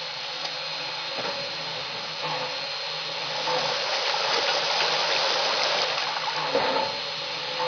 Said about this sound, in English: It didn't take me long to fill the tank because the water pressure is good here.